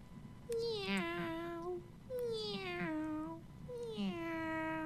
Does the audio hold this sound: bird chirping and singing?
no